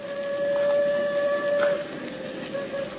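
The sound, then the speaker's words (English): A steam train whistle sounds from far off in a canyon, a steady sustained tone with faint harmonics held over a low rumbling background, dipping briefly before resuming. “The train's almost here. No, not quite, Angel. You can hear it a long way in these canyons.”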